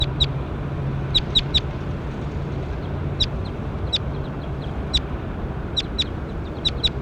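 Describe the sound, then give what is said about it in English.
A bird, recorded as bird 21, calls with short, sharp, high-pitched chirps, repeated in irregular bursts, some in quick pairs or triplets, over a steady low rumble and hiss with no one talking. “One hit a bird 21.”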